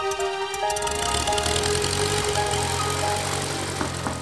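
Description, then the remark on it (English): The engine of a small hand-built propeller airplane sputters briefly, then catches and roars into a loud, steady, buzzing drone with a rough, rapid pulsing throughout. “Okay, clear prop.”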